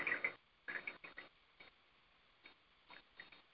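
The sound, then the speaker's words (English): Quiet sipping and swallowing of blessed water as a person takes a drink: a couple of stronger slurps at the start, then a few softer, irregular wet gulps and mouth clicks with short pauses between. “I'm going to take a drink here.”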